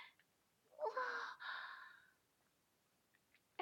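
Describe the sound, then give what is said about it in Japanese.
Two heavy, breathy pulls of air in quick succession, an inhale followed by a long exhale, from someone slightly out of breath after carrying books. Quiet otherwise, with no talking. “さっきまで本運んだりしてたから、それでちょっと息切れしてるかも。”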